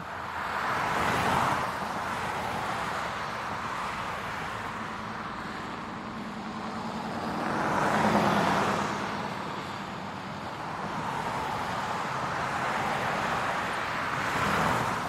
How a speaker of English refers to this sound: I want you to visualize this for just a moment. Imagine right now that there's traffic around you.